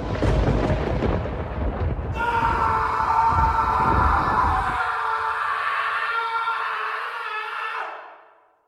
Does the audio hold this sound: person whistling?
no